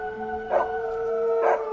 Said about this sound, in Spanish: Y un escalofrío recorrió la piel de las chicas cuando escucharon cómo los dos perros que tenían sus vecinos comenzaban a aullar.